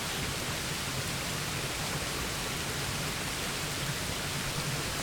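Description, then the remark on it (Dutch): A steady, unbroken rush of falling water, like a waterfall, fills the whole stretch at an even, moderate level, with no voices and no change in intensity. “De waterval heeft je volledige aandacht. Zie hoe het water onophoudelijk zijn weg vindt.”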